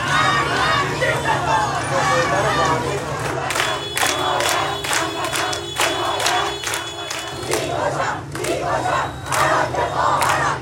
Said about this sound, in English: Protesters have chanted, "Death to the dictator," and "I will kill the one who killed my sister."